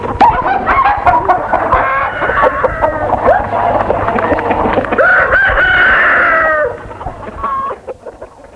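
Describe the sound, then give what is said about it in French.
A busy flock of hens that have come indoors clucks and squawks continuously as they peck and land on a table, while a rooster lets out a long, loud crow near the end before the chatter thins out. “La femme Marie chasse les poules de dessus la table, mais jamais celles qui sont sur Frédéric.”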